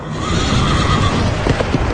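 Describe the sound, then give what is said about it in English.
A horse whinnies loudly while its hooves clip-clop in a quick, steady rhythm close by, with no voices present. “Another horse, fiery red, went out.”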